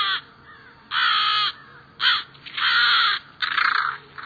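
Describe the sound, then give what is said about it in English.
American crows cawing while defending their nest and young: a series of loud, harsh, raspy caws in irregular succession, some short and some drawn out, with no voices. “You're hearing American crows defending their nest, protecting their young.”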